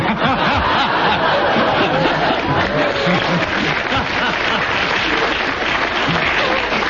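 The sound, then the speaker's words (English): An audience applauds loudly and steadily for several seconds, a dense, even wash of clapping with a few bits of laughter mixed in, and no one speaking over it. “Because the audience applauded, I feel I should give you a bonus point.”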